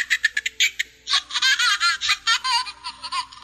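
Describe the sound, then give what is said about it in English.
A baby-like doll laughs and giggles in short, high bursts, first choppy and then in longer warbling runs, with a hollow, echoing quality as if sounding from down a well. “I think the echo, it's got an echo sound to it, so it sounds like it's a baby at the bottom of a well or something.”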